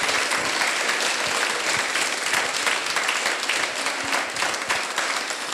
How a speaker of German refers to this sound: Und den allergrößten Applaus natürlich für euch, weil ihr wart heute da. Ihr habt zugehört, ihr habt einen wunderbaren Abend gehabt. Keine Widerworte. Riesigen Applaus für euch, für das beste Publikum, was man sich wünschen kann.